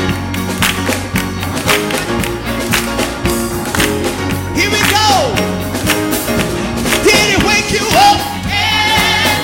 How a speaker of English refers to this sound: Come on, clap your hands.